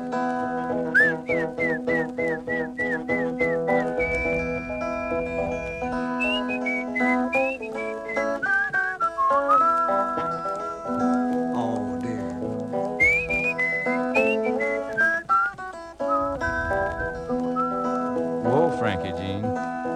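A person whistles to call an animal, a series of bright, rising and falling notes, short repeated chirps then longer sliding tones, clear over a steady instrumental background.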